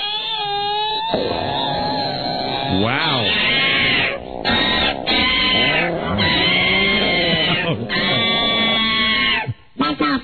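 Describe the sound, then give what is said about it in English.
A voice imitates a newborn baby crying: loud, continuous wailing with rising and falling pitch and a few brief breaths, ending in a short exclamation. “That's like it's a little painful. That's why I'm crying.”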